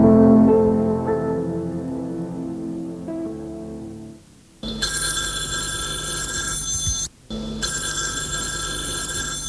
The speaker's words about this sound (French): Elles ont fait installer le téléphone dans le séjour, mais c'est Eugénie qui répond toujours.